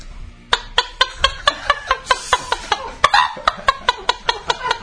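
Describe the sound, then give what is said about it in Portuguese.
A woman imitates a chicken clucking, voicing a quick, steady series of about eighteen sharp clucks, fairly loud, with no other talking. “Eu imito bem uma galinha.”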